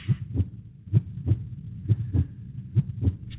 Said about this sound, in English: Listen to that heartbeat, see the finish line is there.